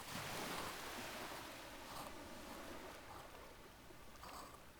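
nature, ocean waves

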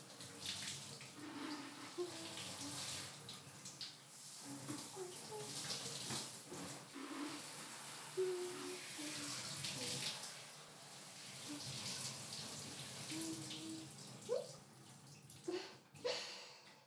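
household object, shower water running

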